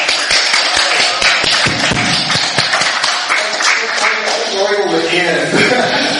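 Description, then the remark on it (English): An audience claps loudly and steadily for about six seconds, a dense wash of many hands with sharper individual claps popping through, while voices murmur and call out underneath. “let's clap really loud anyway, just to get these people in here.”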